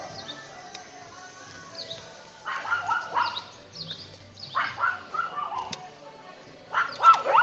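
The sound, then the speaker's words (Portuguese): A small dog yaps in several short, high-pitched bursts, with background noise and faint bird-like chirps between the barks. “Tem cachorro pequeno aqui, mas dá pra passar.”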